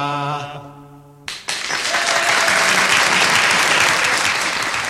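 A sung Irish folk melody with accompaniment ends, and after a brief pause loud, dense audience applause breaks out, a steady wash of many hands clapping that continues at full strength to the end.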